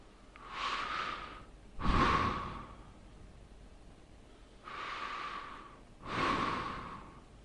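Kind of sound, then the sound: human body sound, deep breathing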